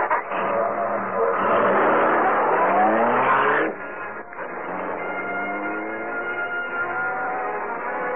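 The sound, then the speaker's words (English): A car engine revs hard and climbs in pitch as it speeds through city streets, running a changing traffic light and cutting past a trolley car, drops briefly at a gear change, then keeps roaring steadily with no one speaking. “We're moving so fast and sweet, we'll not have a chance to know this is the Black Beauty.”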